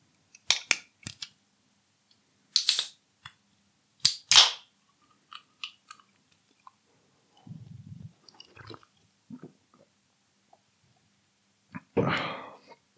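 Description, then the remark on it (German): A beer can being handled and opened: scattered metallic clicks and taps, sharp cracking pops with a brief hiss, some low muffled thuds, then a final burst of fizzing noise, with no talking. “Und jetzt gibt's noch ein schönes Dosenbier dazu und dann geht es auch gleich los.”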